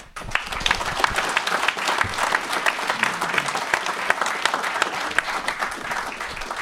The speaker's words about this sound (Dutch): ja, omdat jij aftreedt, willen we je inmiddels een hartelijk klaterend applaus ontzettend bedanken voor al die jaren.